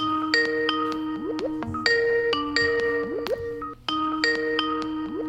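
A phone's outgoing ringing tone, calling a mobile phone after a lost connection, plays as a short electronic melody of beeps with quick rising chirps, repeating three times with brief gaps, clear and steady with no voices.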